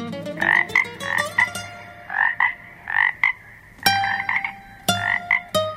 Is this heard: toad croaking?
yes